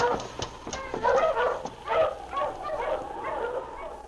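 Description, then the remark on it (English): A team of husky sled dogs barks and yips together in an overlapping, excited chorus as it comes to a stop outside the constable's office at Whitehorse, steady throughout, with no voices. “Sergeant Preston and Yukon King were in the constable's office at Whitehorse when they heard a dog team come to a stop outside.”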